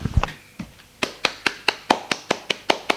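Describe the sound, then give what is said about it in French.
Applause in a steady rhythm: about a dozen sharp, evenly spaced claps, fairly loud, with no voices. “Une fois qu'elle est finie, ils applaudissent.”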